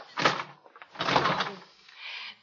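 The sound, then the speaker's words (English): A locked door is tried by someone who can't get out, its handle rattled and pushed in two quick, fairly loud bursts of clattering and thumping, followed by a softer shuffle of movement, with no voices. “The door's locked. I can't get out.”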